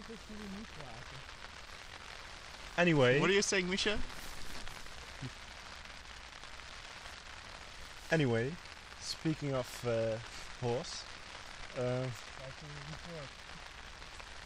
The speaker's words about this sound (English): As you might have heard by now, it's raining outside and we're in a tent. It's raining outside.